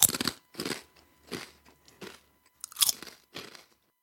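Someone munches a crunchy cookie: six crisp, crackly crunches come in an uneven chewing rhythm, each a short burst of brittle noise with quiet pauses between. No one speaks.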